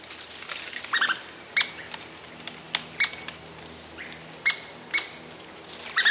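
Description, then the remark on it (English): Two Douglas squirrels chatter in sharp, scratchy bursts as they scamper up a tree trunk, with about a dozen quick clicks and chirps spaced irregularly over a quiet background. “Two sprightly Douglas squirrels chatter as they scamper up a tree trunk.”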